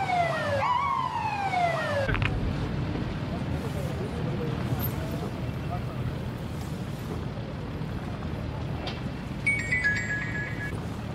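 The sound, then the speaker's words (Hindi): A loud police siren of a ministerial convoy sweeps up and down for the opening two seconds as police close the road for passing government ministers, then gives way to a dense roar of traffic, with a brief, high electronic siren tone returning near the end. “माजरत मेरे भाई, यहाँ तो पुलिस ने रास्ता बंद कर रखा है, हुकूमती वजीर वगैरह गुजर रहे हैं, इसलिए प्रोटोकॉल लगा है।”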